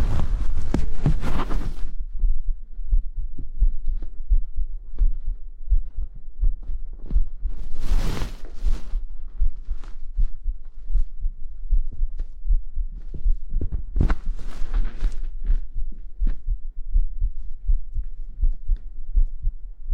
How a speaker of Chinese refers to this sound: 好了，你的心跳有一点微弱